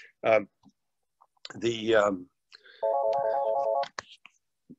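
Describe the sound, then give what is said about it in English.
A brand-new telephone, installed the day before, rings with a steady electronic warble for about a second, clear, after a couple of short bursts of voice, with light clicks scattered around it. “I have a brand new phone behind me that is ringing, and I don't know how to turn it off.”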